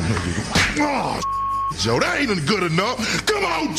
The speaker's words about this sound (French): Et son petit rituel à lui est plutôt simple. Se faire tarter par un membre du coaching staff avant le match.